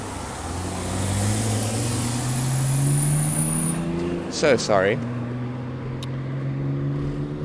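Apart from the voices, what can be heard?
loud truck passing by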